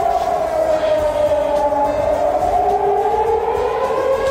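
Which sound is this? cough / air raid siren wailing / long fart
air raid siren wailing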